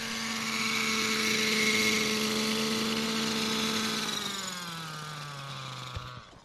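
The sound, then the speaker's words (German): A petrol model helicopter drones steadily with a buzzing engine and whirring rotor. It is flown until it runs out of petrol, then its pitch drops as it descends and is landed gently, ending with a brief thud before cutting out. No one speaks. “Wir fliegen, bis der Helikopter kein Benzin mehr hat. Dann lässt ihn der Toni Laube sanft landen.”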